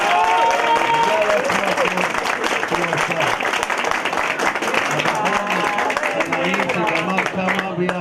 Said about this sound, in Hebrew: הבחור הנעים והמנעים, שאתם מוחאי כפיים לכולם, מי זה?